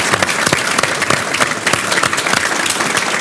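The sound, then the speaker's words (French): A room full of people at an event in Nice, France, claps steadily for a speaker, a dense wash of many hands with sharp individual claps popping out, sustained and fairly loud for the whole stretch. “Applaudissements”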